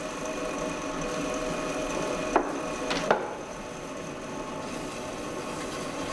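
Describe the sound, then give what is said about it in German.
A potter's wheel hums steadily as clay is thrown into a rising cylinder, the potter pressing the clay from inside with the left hand and giving counter-pressure with the right. A constant motorized drone with soft wet rubbing, broken by two brief knocks near the middle. No one speaks. “Durch Druck und Gegendruck beim Drehen der Scheibe wächst der Zylinder in die Höhe.”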